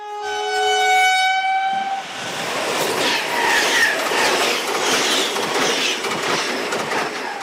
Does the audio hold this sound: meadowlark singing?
no